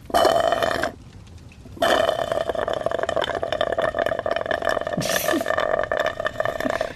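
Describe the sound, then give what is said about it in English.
Someone slurps chocolate milk through a straw in a loud, gurgling, rattly stream that breaks off briefly and then carries on steadily, with no talking. “Orpheus nods at the slurping and says, ah, music to my ears.”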